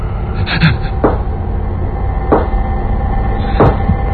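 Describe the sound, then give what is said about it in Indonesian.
Three slow, evenly spaced knocks on a bedroom door at 1 a.m., each a single sharp thud about a second apart, sounding over a dense, low rumbling background that runs throughout. “ada yang mengetuk pintu kamarku.”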